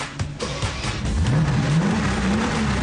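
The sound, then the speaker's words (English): A Mercedes-Benz G-Wagon engine is started and revved by a woman in the driver's seat at a car dealership, its deep growl climbing steadily in pitch and loudness over a few seconds with no one talking. “As she revs it in the dealership.”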